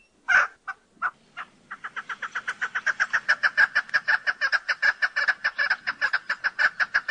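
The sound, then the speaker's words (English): A chukar partridge gives its most common call: a few separate clucks that speed up into a long, steady, rhythmic series of harsh chucking notes. No voices are heard. “Their most common call is given by both sexes, and if you use your imagination, sounds like their name.”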